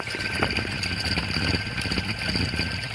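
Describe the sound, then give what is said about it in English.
The spinning belt tensioner guard part of a machine, spun by hand, whirs steadily and without pause: a dense mechanical hum with a thin, high whine running through it. No one speaks. “That guard part really spins, and I don't know about the idler, but I mean the belt tensioner.”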